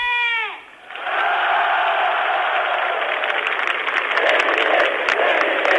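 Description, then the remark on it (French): A huge crowd of nearly 500,000 people at an afternoon mass rally on Letná Square in Prague cheering in a loud, steady roar that continues without a break, preceded by a short, falling, tonal note at the very start. “La foule des grands jours à Prague, sur la place Letna, où autrefois s'élevait la statue de Staline.”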